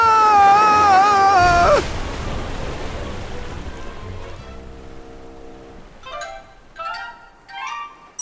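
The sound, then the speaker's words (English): A boat weighed down by salt sinks into the sea: a wavering tone slides downward, then a rush of churning water follows, ending in three gurgling bursts of rising bubbles. “The salt makes the boat heavy. The boat goes down in the water.”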